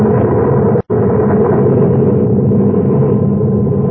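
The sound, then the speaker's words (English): A heavy explosion rumble as the Adamson A explodes and the ground shakes, a dense low roar that holds steady and loud for several seconds after a split-second break, with no voices. “Then suddenly, the ground shook. And I could feel the dull concussion waves hit my ears as the Adamson A exploded.”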